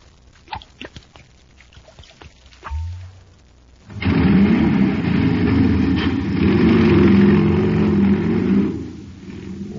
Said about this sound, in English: That jet cycle is supercharged now. Yes, sir. When it comes to supercharging, there's only one answer. Super fuel.